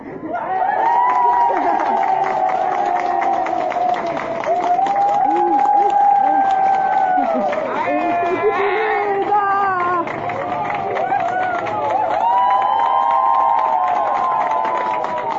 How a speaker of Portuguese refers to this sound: é o vídeo de uma homenagem feita pela equipe do Hospital Ouro Verde, em Campinas, que ganhou as redes sociais. Nas imagens, funcionários da unidade aplaudem e saúdam um senhor de 94 anos que teve alta após ser internado com a Covid-19.